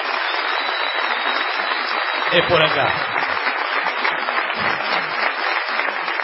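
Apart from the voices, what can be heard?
audience applause and ovation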